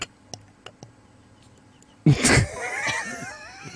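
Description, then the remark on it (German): A few faint clicks, then wheat beer with yeast glugs from a 0.5-litre bottle into a 0.3-litre glass, a steady pour with gurgling, bubbly splashes whose pitch rises as the glass fills. “Das ist sogar in der 03er-Glas perfekt eingeschenkt, aus der 05er-Flasche. Mit Hefe sogar.”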